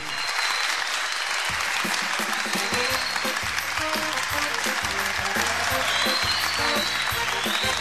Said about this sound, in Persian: لطفاً تشویقش بفرمایید.